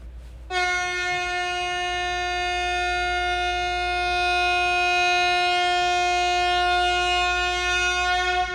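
horn honk

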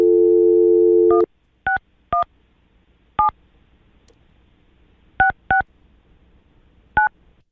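telephone touch-tone dialing

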